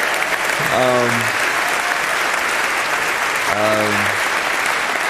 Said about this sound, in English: Our guest today is Kareem Abdul-Jabbar. Y'all can clap one more time for that.